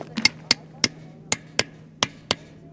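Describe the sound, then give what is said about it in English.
Workers with small hammers tap rocks into gaps in the stone walkway leading to the entrance of the presidential offices in Brasilia, Brazil, repairing damage done by rioters: sharp, irregular taps, about eight crisp hits in quick succession with a low steady hum of outdoor noise underneath. “With small hammers, they tapped rocks into gaps in the stone walkway leading up to the bright entrance of Brasilia's presidential offices.”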